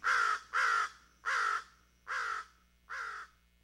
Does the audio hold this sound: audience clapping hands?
no